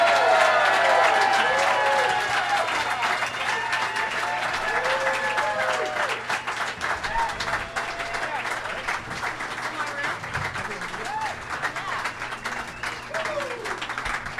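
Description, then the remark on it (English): Sustained audience applause from a San Diego show audience welcoming the show's guests, a dense wash of many hands clapping at a steady loud level, with some whoops and crowd voices mixed in before it gradually thins slightly toward the end. “I heard some Santee claps in there, and I do not...”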